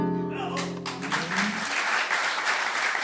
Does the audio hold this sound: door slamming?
no